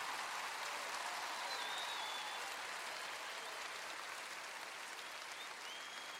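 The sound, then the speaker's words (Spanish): Sustained audience applause in Honduras for the Honduran musicians, a dense steady patter of many hands clapping at an even loudness for several seconds, with no voices standing out above it. “Fuerte ese aplauso.”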